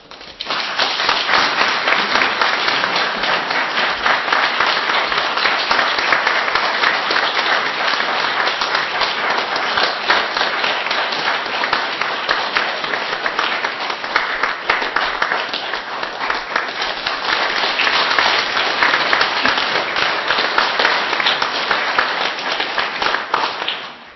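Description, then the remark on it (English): A church audience applauds steadily for over twenty seconds to welcome two new members into its fellowship, a dense, even wash of many hands clapping at constant loudness before it tapers off at the end. “And as I give them a hearty handshake, would you welcome them with a generosity of applause?”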